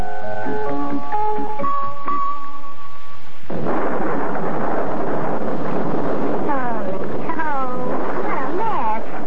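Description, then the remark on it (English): After a few seconds of steady tones, a loud rush of rain and wind on Lake Michigan breaks in suddenly late at night, with wailing, rising gusts sweeping through the storm. “But as we were going there, late at night, it started to rain, and we ran out of gas.”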